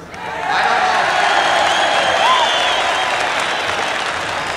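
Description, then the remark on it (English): A very large crowd of some 500,000 young people, the largest group ever assembled in one place, breaks into applause after a brief quiet moment, the clapping swelling into a dense, loud, steady roar that holds for several seconds with faint cheering mixed in. “I don't know how to speak to 20 people at one time, let alone a crowd like this.”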